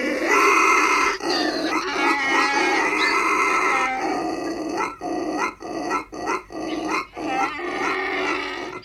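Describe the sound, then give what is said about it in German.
A pig grunts and a donkey brays loudly, the harsh, rasping calls running almost continuously before breaking into a rhythmic series of heaving gasps near the end. “Also ich glaube, es ist Schwein und Esel. Und Schwein und Esel ist richtig.”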